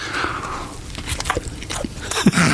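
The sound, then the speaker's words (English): Someone on a radio show bites into a chicken and stuffing snack, then chews. A burst of short, crackly, moist crunches and squelches comes in an uneven rhythm at moderate loudness, with no talking. “Anyway, listen, I'm going to take a bite.”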